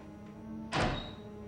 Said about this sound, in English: Hearing the footsteps and the door, Vera rushes out and down the stairs.